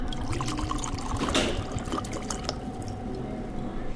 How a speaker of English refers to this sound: Back at Woody Creek Distillers, Mark Kleckner pours crystal clear vodka into a glass.